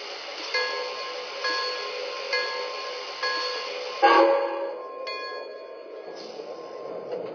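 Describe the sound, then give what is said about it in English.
Passenger train number 507 of the Royal Blue Line, arriving from New York, rolls into Wilmington station on track 1 with steady metallic clanks and ringing tones, building to a louder jolt before the rumble eases and settles. “Now arriving from New York on track 1, train number 507, Royal Blue Line.”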